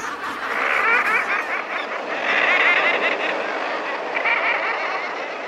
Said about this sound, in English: The common murre's guttural call carries well over the roar of the waves, a natural laugh track, far richer than human laughter canned for a sitcom.